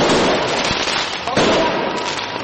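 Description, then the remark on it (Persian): Protesters launch fireworks toward the sky against riot police at night, in front of the parliament on the main square in Tbilisi, Georgia: a dense, continuous roar of crackling and hissing, with a couple of sharper bangs punching through, while indistinct crowd voices mingle underneath. “شماری از معترضان از لوازم آتش‌بازی که به سمت آسمان پرتاب می‌شد برای مقابله با پلیس استفاده کردند.”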